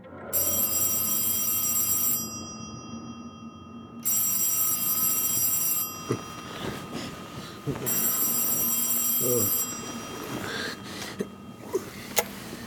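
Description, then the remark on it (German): A telephone bell rings loudly in three long, shrill bursts separated by short pauses, followed by some rustling and a soft throat-clearing sound. It is a call from an assistant doctor at around 12:30 on a clear November night in 1931. “gegen 12:30 in einer klaren Novembernacht des Jahres 1931 mit einem Telefonanruf meines Assistenzarztes Dr. Braille begonnen”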